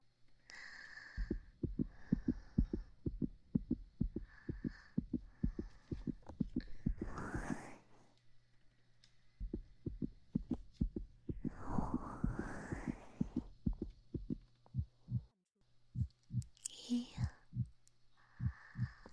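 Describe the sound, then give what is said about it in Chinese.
A fast, steady heartbeat thuds, heard with an ear pressed against a person's chest, with soft breathy rushes and sighs rising over it now and then. “快听我，让我贴着你的胸口来听你的心跳，直到你的心跳变得正常了，我再离开。”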